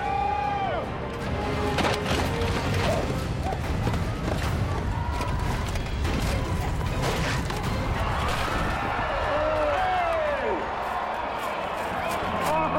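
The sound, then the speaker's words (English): Pounding hoofbeats of charging horses build amid a noisy crowd at a jousting competition, followed by a sharp crashing impact as the jousters collide head-on, with indistinct voices and cheering throughout. “We just hear the horses and we hear the collision.”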